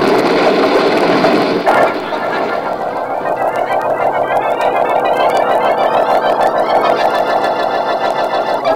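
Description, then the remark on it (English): A car's starter grinds loudly as the ignition is switched on, then the engine catches and settles into a steady, rattling run, its whine rising in pitch as it revs up. No voices are heard. “On with the ignition. Better hurry, Frankie.”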